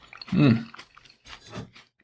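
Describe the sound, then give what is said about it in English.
Wet, crunchy chewing of a crisp grape, with a short hummed "mmm" of appreciation early on and a second burst of squishy bites about a second later. “I have to get the other half. Wow, this is a really nice, and they're crisp, very crisp.”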